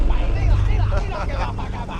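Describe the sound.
A car's engine rumbles low and close as it rolls up, its deep idle heavy through the first second, while a person talks over it.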